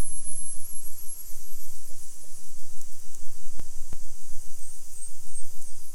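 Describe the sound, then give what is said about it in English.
A bottlenose dolphin pod clicking and whistling over a steady wash of hiss and low rumble. Two sharp clicks stand out midway, followed by faint, very high squeaky whistles near the end. “So now I'll play a recording of a bottlenose dolphin pod.”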